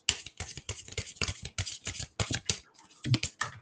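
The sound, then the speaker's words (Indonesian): A deck of tarot cards being shuffled: a quick, uneven run of crisp papery flicks and taps, with a short pause before a few more slaps, and no one talking. “Nggak jago aku ngocok.”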